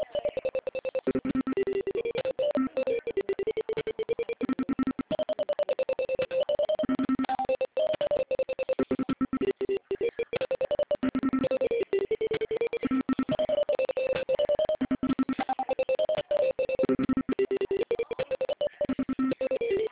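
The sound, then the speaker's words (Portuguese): A telephone ringing tone plays through a narrow, phone-line sound, a melodic tone pattern repeating steadily for the whole stretch with no one speaking. “Eu tô falando no telefone, eu tô ligando.”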